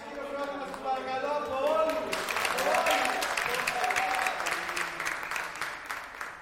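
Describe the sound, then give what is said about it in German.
After a brief moment of a voice, an audience at a Schnippeldisco (disco soup) event in the K44 co-working space in Athens breaks into steady applause, a dense crackle of many hands clapping that holds for several seconds and slowly thins toward the end. “Einen großen Applaus für uns alle.”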